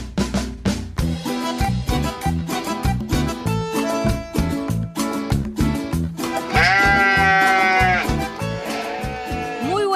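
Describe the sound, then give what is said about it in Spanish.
A quavering sheep bleat rises over upbeat, rhythmic music with steady percussion, loud for a couple of seconds near the end while the music continues underneath. “la oveja que seguimos educando del jardín de la radio escuela.”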